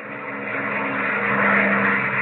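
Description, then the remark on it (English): Airplanes roar overhead at the airbase at Thalitar in a loud, steady engine drone with a low humming tone, swelling slightly midway and holding for the whole moment, with no voices. “You know, I've never seen such planes as you have here”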